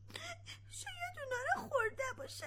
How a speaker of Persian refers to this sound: سیب جان، قرار شد که گریه نکنی خب؟